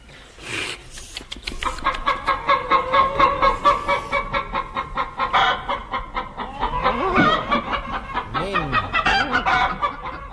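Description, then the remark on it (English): Several voices of the cast of The Goon Show imitate clucking brood hens in a loud, overlapping chorus, with rapid rhythmic clucks and rising squawks running continuously for about ten seconds, with no other talk. “Ladies and gentlemen, with the entire cast unfortunately turned into brood chickens, we are forced to close this series of The Goon Show.”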